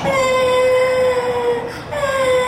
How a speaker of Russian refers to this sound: Ну, солнышко, не плачь. Все хорошо. Ты же не обожглась сильно. Все хорошо.